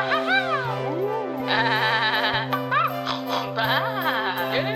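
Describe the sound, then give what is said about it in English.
Wavering sheep bleats sound over a steady, rhythmic musical backing with a regular beat, several bleats in a row, loud, with no one talking. “The horsey pulled the doggy, Kitty Cat, Moo Cow, Chicken, Billy Goat, Piggy, and Baa Sheep all around the barnyard. Together they sang a song.”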